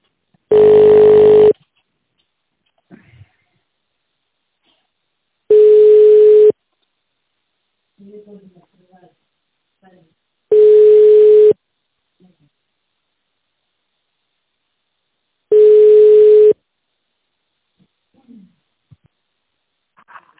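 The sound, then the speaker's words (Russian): Telephone line tones while waiting for an operator on a call to a regional cadastral centre: four steady, low-pitched beeps, each about a second long, repeating at even intervals of roughly five seconds, with faint scattered noises in the gaps. “Пожалуйста, дождитесь ответа оператора.”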